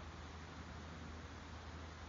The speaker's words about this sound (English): And I hear the creek babbling and burbling below.